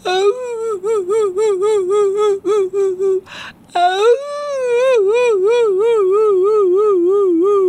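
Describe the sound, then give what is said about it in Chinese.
A voice mimics sad crying: a run of short, wavering whimpers, a quick breathy gasp, then one long, loud, warbling wail that rises and falls. “是谁在哭得这么伤心啊？”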